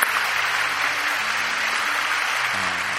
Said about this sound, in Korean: 잠깐 일어나 볼까요? 우리 박수로 축복하고 격려하겠습니다.